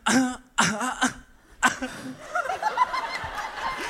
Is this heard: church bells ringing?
no